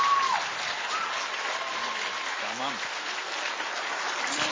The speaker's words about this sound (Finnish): Ja annetaanpa oikein isot aplodit.